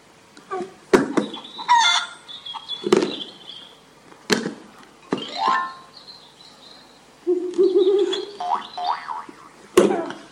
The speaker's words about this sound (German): Huhn.